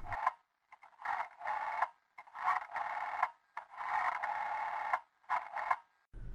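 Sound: telephone being dialed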